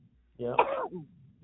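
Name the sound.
sneeze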